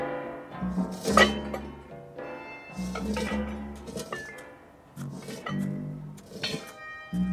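A small metal saucepan, dragged along behind Anatole in the animated film La Petite Casserole d'Anatole, clinks and clanks with irregular bright knocks and ringing tones over about seven seconds, moderately loud, with no voices.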